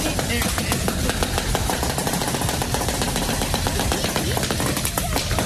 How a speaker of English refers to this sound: That's what it sounds like when they roll a bunch of bubble wrap down and let a truck go over it. Or in my garage when I open a package and just twist it.